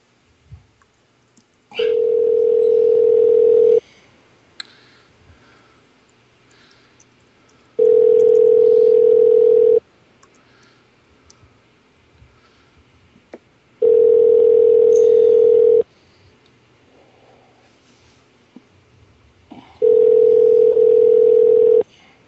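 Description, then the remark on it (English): Four ringback tones from an outgoing phone call to a reverend, each a steady two-second hum followed by a few seconds of quiet line hiss. Clear, with no voices. “Maybe he knows by now not to answer.”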